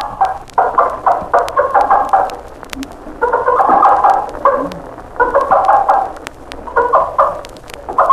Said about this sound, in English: When a mother hen discovers some grain or other food, she scratches and pecks at the food and calls her chicks with excited food calls, and the chicks come running from all directions.